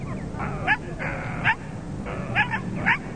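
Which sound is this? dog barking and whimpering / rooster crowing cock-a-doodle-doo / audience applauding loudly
dog barking and whimpering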